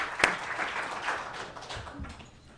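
Warm applause from a crowd, a dense steady patter of many hands clapping at moderate volume, with one sharp louder clap near the start and the sound thinning out toward the end.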